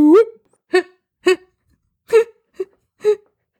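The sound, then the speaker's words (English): A person vocally imitates a Bigfoot call: a long rising wail followed by six short, throaty whoops at irregular intervals, fairly loud, with no other talking. “And the Bigfoot noise is.”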